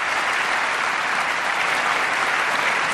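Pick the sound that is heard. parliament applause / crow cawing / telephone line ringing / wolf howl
parliament applause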